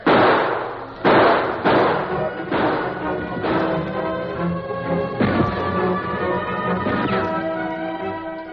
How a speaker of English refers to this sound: Now open fire and keep it going. Not too fast, but steady.